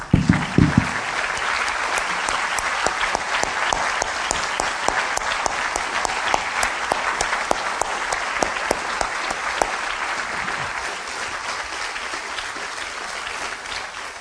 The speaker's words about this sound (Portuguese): Você só pode conhecer verdadeiramente a Deus por meio de Jesus. Podemos aplaudir o nome dele?